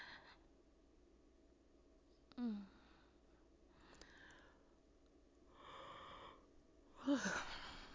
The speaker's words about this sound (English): Oh my God, I don't think I've ever yawned this much in my life.